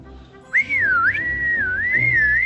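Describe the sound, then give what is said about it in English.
A person whistles a single sustained, wavering tone that bends up and down in pitch for about two seconds, loud, with no talking, to call a dog back. “Quark can't hear us. Yeah, he can. Dogs have great ears. If we can get on him, he'll take us all the way back to the house. Whistle.”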